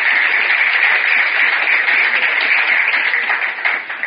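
A crowd claps steadily for several seconds, a dense, even wash of many hands that holds at a loud level before thinning slightly at the end.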